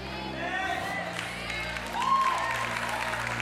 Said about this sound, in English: All you guys are only clapping hands because we're here.